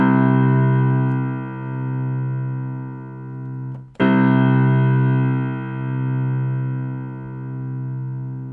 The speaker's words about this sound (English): Tennessee Tones, page 1, set 8. This is Do.